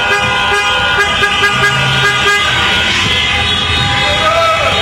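Celebratory car horns honk loudly and almost without pause at night as Croatian fans celebrate Croatia reaching the football World Cup final. Several steady tones overlap into a dense, blaring chorus over a rumble of crowd noise and traffic.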